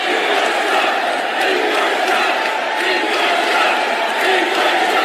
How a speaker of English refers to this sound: But the reaction in the Quicken Loans Arena here in Cleveland last night was an odd mixture of applause, boos, and 14 chants of endorse Trump.